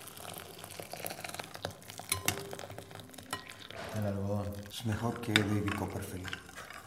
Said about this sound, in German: Auf einem Tisch steht eine große Glasschüssel. In die legt er die Tüte hinein. Er bringt Wasser zum Kochen und gießt es langsam in die Schüssel, in der die Tüte liegt. Rührt um.